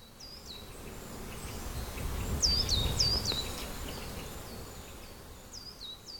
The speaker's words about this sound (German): Welche Geräusche kannst du ganz unmittelbar in deiner Nähe wahrnehmen? Kannst du die Vögel singen hören? Die Insekten summen?